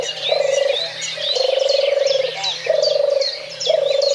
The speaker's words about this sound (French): Dernier exemple visant cette fois l'impact de la chasse sur une espèce en mauvais état au niveau européen, la tourterelle des bois.